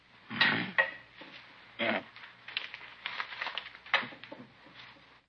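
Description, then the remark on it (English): Keys jangle and clatter onto a hard tabletop in several short metallic bursts as someone empties their pockets, with quieter rattling and shuffling between the drops. “Keys.”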